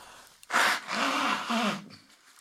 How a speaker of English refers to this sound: Okay. Hold on. Let me blow my nose.